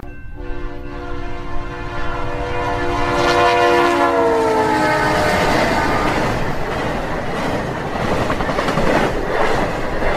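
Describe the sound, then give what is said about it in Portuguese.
A diesel locomotive whistle blows one long, loud, sustained chord for about four seconds, sagging slightly in pitch, as the train comes through the lights of the dock area, then gives way to the steady rumble and clatter of the passing train. No one speaks. “Longe em longe, uma locomotiva óleo diesel apita, desanimada, e vem furando as luzes na zona do cais.”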